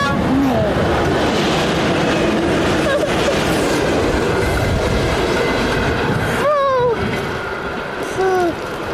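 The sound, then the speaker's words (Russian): A frozen electric commuter train rumbles loudly and steadily, its wheels letting out several high, wavering squeals toward the end as it rolls along the track. “Она замерзла, эта электричка.”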